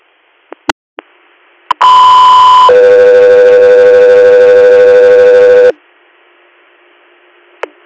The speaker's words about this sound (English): Delta Radio, stand by for tones.